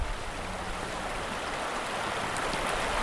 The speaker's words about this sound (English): And we have the ducks riding the rapids here, right? They're just four gadwalls just shot by, and now a couple of mallards, and then there are a few golden eyes in here.